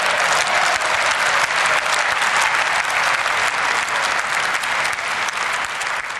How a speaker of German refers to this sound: Der Jubel und die Zustimmung, so schien es jedenfalls zunächst, waren laut und einhellig, eine Zeitwahrheit einer Kehrtwende der Außenpolitik.